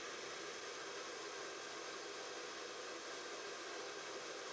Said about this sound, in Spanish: También hago mis pruebas con un secador para identificar su consumo.